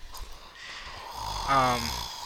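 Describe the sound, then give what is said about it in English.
A person fakes a snore: a breathy rasping inhale that swells into a loud, buzzing, throaty rattle before tapering off, all within about two seconds. “That was his attempt at snoring.”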